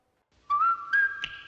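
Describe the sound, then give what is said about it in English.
A clear whistled melody from a video being played begins after a short silence, with a steady rising pitch and a few sustained notes, fairly loud, with no talking. “Whistle along if you would like.”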